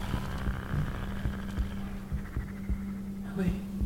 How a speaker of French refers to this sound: Vous pouvez l'entendre grogner à présent, très bas, mais toute proche, comme un gémissement malade qui vous tétanise.